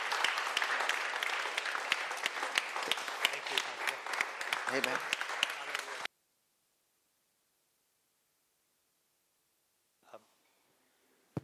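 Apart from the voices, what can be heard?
audience applause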